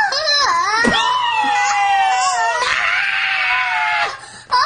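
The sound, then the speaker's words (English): A long, piercing, high-pitched scream held loudly for several seconds, wavering in pitch with a couple of brief breaths, then cutting off abruptly near the end. “Daddy screamed like a girl like that.”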